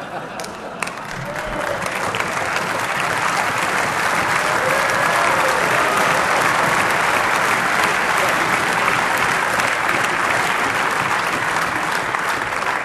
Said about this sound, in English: There was polite applause. Farage joined in on it. And then Juncker let Farage have it. That's the last time you are applauding here.